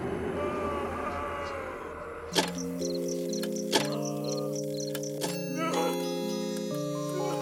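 Three resonant bell chimes strike about a second and a half apart, each ringing on and overlapping the next, following a murky, rumbling ambient drone.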